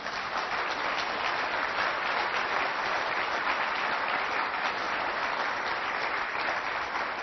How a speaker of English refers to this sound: Thank you. Somebody clapping for me?